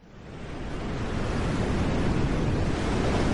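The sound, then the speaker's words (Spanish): A stormy sea roars with a steady, dense rush of crashing surf and wind, swelling from quieter to loud within the first second and staying thick and unbroken, with no voices. “Y esto es evidentemente un sonido de tempestad.”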